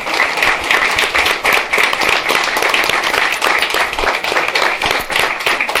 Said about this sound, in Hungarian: És akkor még egyszer tapsoljuk meg ezt.